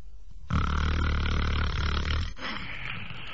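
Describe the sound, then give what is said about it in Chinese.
A storyteller's voice imitates one long, loud snore of the monk Lu Zhishen: a heavy, rumbling, rattling inhale lasting nearly two seconds, then a softer, breathy tail, with no other sounds around it. “天黑了，这俩和尚到这屋来就寝呢，往这一走，离这屋还有四五十步呢，就听见从这屋子里边传出来阵阵鼾声。”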